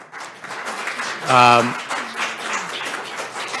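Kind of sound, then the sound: crowd, audience applause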